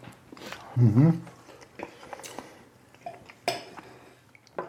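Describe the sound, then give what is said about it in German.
Chewing and wet lip smacking in scattered clicks while eating a dish topped with olives, with a brief hummed murmur early on and faint clinks of cutlery or dishes. “Ja, es ist natürlich super, beim Podcast zu schmatzen, zu essen.”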